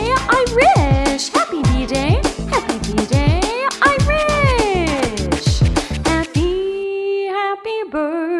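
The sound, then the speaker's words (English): A rapid, lively series of high yipping dog barks and whines, loud, with pitch sliding up and down, ending on a couple of sustained tones. “My dog says, boop, boop, to you, I wish.”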